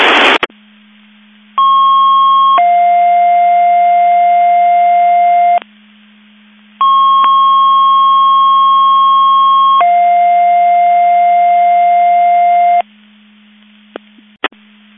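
Radio paging alert tones for mutual aid box alarm receivers in a McHenry County Division 5 test at 10:05 hours: a steady higher tone steps down to a longer lower tone, and the pair sounds twice with a short gap, loud over faint radio hiss.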